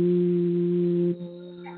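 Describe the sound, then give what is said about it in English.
A steady, low closed-mouth hum held on one pitch for about a second, then dropping to a softer, quieter hum that continues to the end. Clear, with no talking. “You can just hum and close your mouth.”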